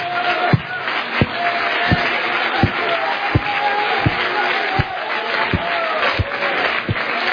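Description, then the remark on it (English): An audience claps hands to the Lord in a steady, even beat, roughly one sharp clap every three-quarters of a second, over a constant wash of crowd noise and murmuring voices. “Oh, somebody, clap your hands to the Lord.”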